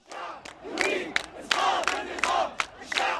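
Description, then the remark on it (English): A large crowd of protesters in Cairo, Egypt, chants in unison against the government with a strong, rhythmic cadence, voices rising and falling in repeated bursts of shouted syllables over about three seconds. “Chants like this one in Cairo that pronounced the people's determination to topple the government clearly sent a chill up officials' spines.”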